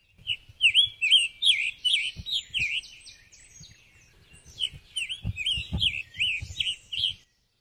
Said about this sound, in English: Their call can be variable, but has been described as a chirp, chur, or perhaps a chur. Here it is.